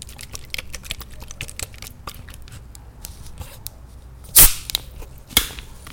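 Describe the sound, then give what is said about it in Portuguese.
Light crinkling clicks of a plastic bottle, then a sudden loud, harsh fizzing burst as sparkling water is opened, followed a second later by a shorter hiss of escaping gas. “Estourou o áudio? É uma água com gás.”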